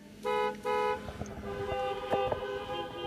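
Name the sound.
cars driving away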